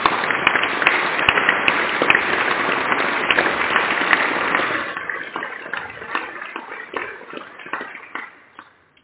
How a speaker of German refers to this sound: Deswegen können wir einen Applaus haben für die drei hier vorne.